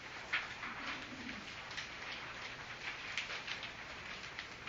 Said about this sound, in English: It's nice to hear the rustling of the papers, so you are following. Good. That's a good sound to my ears.